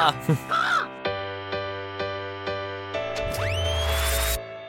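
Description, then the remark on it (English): A person's voice mimics cawing crows: a few rough squawks, then a run of evenly spaced harsh caws, ending in a long drawn-out rising screech. “They just released 1,000 doves.”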